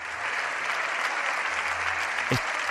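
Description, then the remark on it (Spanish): Sustained applause in Spain's Congress of Deputies for the speech of opposition leader Alberto Núñez Feijóo during a face-to-face session with Pedro Sánchez, dense steady clapping with no voices breaking through and one brief thump near the end. “Este es sonido directo del Congreso de los Diputados, los aplausos a la intervención del líder de la oposición.”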